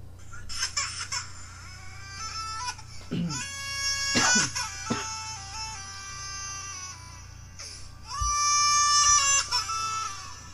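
A two-year-old baby's crying, pitch-corrected with Autotune into stepped, synthetic-sounding tones and produced as a song, wails in bursts over a steady musical backing, loud throughout.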